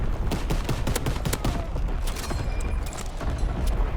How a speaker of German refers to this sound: Incoming enemy artillery. Get to cover. Okay, jetzt müssen wir uns mal hier verschanzen. Weil wenn ich hier rausgehe, kriege ich Artillerie auf den Kopf. Von hinten.